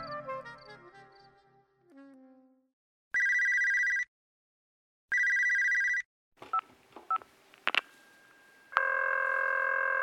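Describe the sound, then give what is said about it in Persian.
A telephone rings twice in loud, evenly spaced electronic bursts, after a fading stretch of saxophone music played by a man; then come handset clatter as he picks up the receiver and a sustained answering-machine beep, with no one talking. “تلفن زنگ می زند.”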